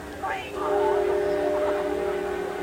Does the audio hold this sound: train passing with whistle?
yes